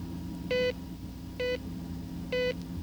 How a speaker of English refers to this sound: Yeah, in the glove compartment. Hey, my favorite, beeping head cleaner.